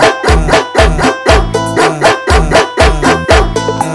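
Loud, rhythmic dog barks repeat in a steady pattern, about two per second, set over a heavy bass-driven music beat with no one talking.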